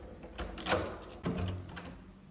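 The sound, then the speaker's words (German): A standard hotel room door in Egypt is opened, with a click of the handle and latch followed by a soft creak and thud as it swings, set against quiet room noise. “Das ist meine Tür und dann gebe ich euch jetzt mal einen Schwenker übers Zimmer.”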